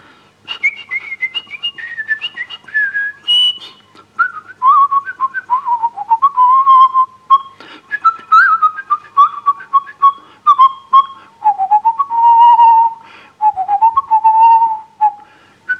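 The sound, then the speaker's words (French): Someone whistles a lilting musette melody alone, fairly loud, the tune stepping down in phrases with brief breaths between notes and no talking. “Celui dont je me souviens, ah, je ne sais pas bien siffler, mais...”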